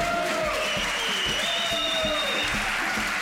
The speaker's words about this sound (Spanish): Este episodio es el número 240 del viernes 8 de julio de 2022, un episodio muy especial ya que estamos grabando en directo desde el Congreso AETIF Málaga 2022 y aquí podéis escuchar a los asistentes. Un aplauso.